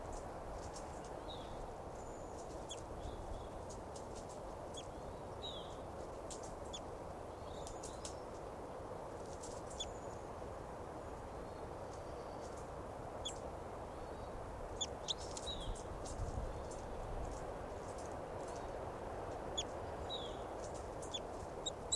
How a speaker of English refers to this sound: Fighting calls there by both birds, 387 and the wild bird, wild adult female here.